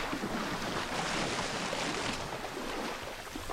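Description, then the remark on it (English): Water churns and splashes in a steady rushing wash for a few seconds as someone splashes into volcanic spring water emerging from rock in the desert, with a breezy, wind-buffeted edge and no voices. “And all of this is just volcanic spring water, which means it's drinkable.”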